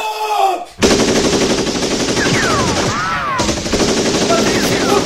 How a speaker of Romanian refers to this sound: Ocupați pozițiile. Inamicul la orizont. Foc de avertisment. Apărați aeroportul.